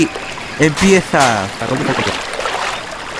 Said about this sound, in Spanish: Aquí delante tenemos el río.